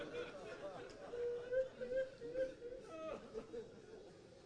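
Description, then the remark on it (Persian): Several voices moan and weep softly together at a gathering, wavering sobbing tones overlapping in a quiet murmur, with faint crowd voices underneath. “روزه های دیگه گریه کنید، من نمیخوام صدای ناله شما بلند بشه.”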